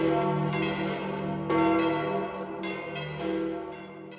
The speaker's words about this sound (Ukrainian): Знову дзвони Ватиканської базиліки Святого Петра скликають усіх вірних послухати чергове катехетичне повчання Святішого Отця Венедикта XVI та отримати його апостольське благословення.